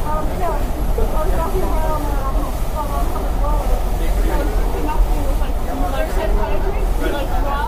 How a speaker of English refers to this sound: Okay, so now we're on the subway again.